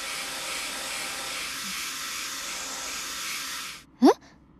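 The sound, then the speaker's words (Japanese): A hair dryer blows hot air in a steady, loud, airy roar for nearly four seconds, then switches off abruptly, followed by a quick rising squeaky chirp. “あれ以来、ドライヤー恐怖症になった？”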